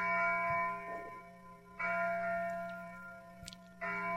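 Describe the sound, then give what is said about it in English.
Abbey church bells ring in the distance near noon on a warm summer's day in the low Kentucky hills, heard from a car about 2 miles away; long, humming tones swell with each new strike and linger between, over a steady low rumble like a passing car. “It was near noon, and the bells were starting to ring at the abbey.”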